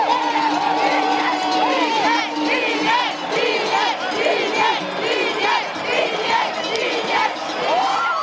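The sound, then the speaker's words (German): A big crowd of spectators in the finish area of a ski downhill race cheers and shouts loudly, a sustained, dense roar with voices rising and falling throughout, continuous. “Der Lärmpegel war der höchste, den ich gehört habe während dem Rennen.”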